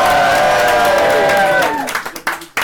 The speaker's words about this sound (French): Je m'entraîne un peu à lancer les applaudissements.